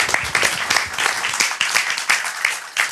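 A crowd applauds steadily, many hands clapping in a dense, continuous patter with a few sharper bursts standing out, sustained at a moderate level for the full few seconds.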